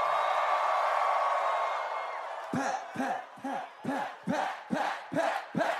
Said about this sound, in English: Everybody make some noise for Pat tonight, motherfuckers.